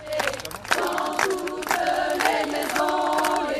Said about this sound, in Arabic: تحت تصفيق آخر تغادر المرأة التي فتحت قضية اغتصابها للرأي العام ليكون شاهداً على عنف الرجال، تغادر دون تصريح إذ قيلت كل الكلمات.